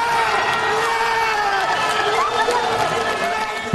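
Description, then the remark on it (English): A large crowd in Chile cheers and shouts continuously as Florencio Avalos, the first of 33 trapped miners, surfaces after 69 days underground: a dense, loud roar of many voices with whoops rising above it, sustained without pause. “Here's the crowd when the very first one, Florencio Avalos, came out, the first of 33 miners surfacing after 69 days underground.”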